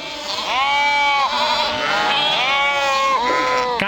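A goat bleats loudly, a few long quavering cries running almost back to back over about four seconds, with no talking.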